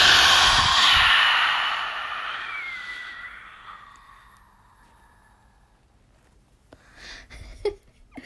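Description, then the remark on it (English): A person forcefully exhales a long, breathy breath with the mouth open wide, pushing stagnant air out of the body. It fades over about three seconds, followed by quiet and a few faint, short breath sounds. “So what helps, it really helps to move that air if you open your mouth wide and you push it out and you make the sound.”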